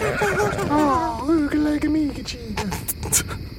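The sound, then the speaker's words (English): A tiny horse named Gubnit, wearing a top hat, whinnies with a wavering, rising-and-falling pitch. The whinny lasts a couple of seconds and is fairly loud, over a steady hiss of background noise. “Look, children, play with your mother's tiny horse with a top hat on.”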